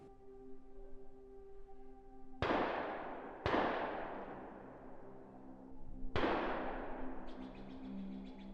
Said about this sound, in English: gunshots echoed from somewhere ahead, before a blood-curdling scream followed only seconds later.